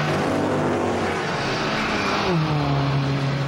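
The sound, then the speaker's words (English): A racing car engine in a racing video game roars steadily, its pitch shifting as it revs and shifts gear midway, loud over a wash of road noise, with no talking. “The Gran Turismo 4. Yeah, I love Gran Turismo.”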